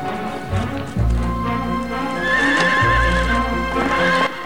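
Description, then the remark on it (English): Horses whinny loudly while hooves clip-clop along beneath as riders ride off, one horse a magnificent white one ridden by a young woman. The galloping rhythm carries through the whole stretch, with no voices. “She's closely followed by Rochester on his steed.”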